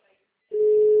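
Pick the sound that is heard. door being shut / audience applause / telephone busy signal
telephone busy signal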